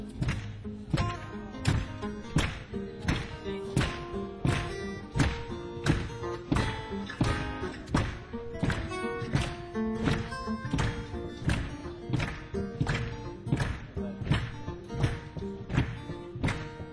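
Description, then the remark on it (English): A crowd claps in a steady, even beat along with a song, the sharp rhythmic claps sounding over sustained musical tones at a moderate level throughout. “Good clapping.”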